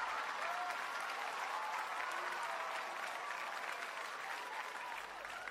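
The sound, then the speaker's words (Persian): Sustained applause from an audience, a dense, steady wash of clapping that holds at an even loudness for the full length with no talking over it. “یک چکچک و یک تشویق به افتخاری بزرگ کردن.”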